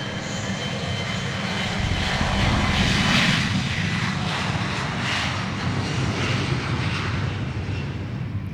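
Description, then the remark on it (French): A loud, steady roar of airplane engines during takeoff, a dense rumbling drone that swells slightly partway through and holds throughout, with no voices. “Nous allons redécoller bien sûr et nous allons atterrir d'ici peu à la bonne destination.”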